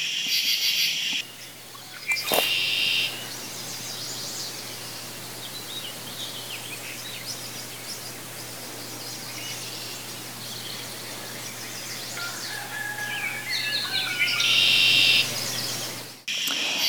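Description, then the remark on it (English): A dawn chorus in May at a home in Hanacroy, New York, with a variety of birds calling and singing together, layered over a steady outdoor hiss and a low continuous hum. No one speaks. “So here's the dawn chorus in May, which consists of a variety of birds.”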